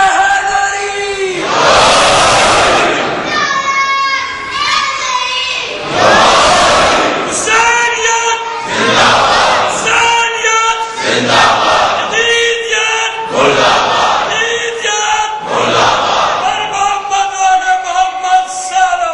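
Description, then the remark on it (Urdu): A large crowd chants slogans in unison, loud rhythmic bursts of many voices repeating roughly every two seconds, with brief swells of cheering between the calls. “ہم سوچ نہیں سکتے تھے اتنا پرجوش ہو سکتی ہے، اتنا پرخروش ہو سکتا ہے کہ مثال کے طور پر اب اگر وہ اتنی بڑی روڈ کے اوپر آتے ہیں، کلو میٹرس کے اوپر بڑی روڈ، اور جب مل کے نعرہ لگا لیتے ہیں لگتا ہے پوری کراچی میں آواز گونج رہی ہے، ان کی طاقت نظر آتی ہے.”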